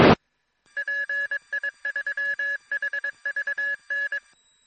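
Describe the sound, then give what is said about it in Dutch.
An amateur radio repeater (relay) beeps back after a brief click, following a ham operator's transmission: a run of steady, mid-pitched electronic tones in uneven on-off groups, Morse-like, fairly loud and alone for about four seconds. “Het relais piept weer terug.”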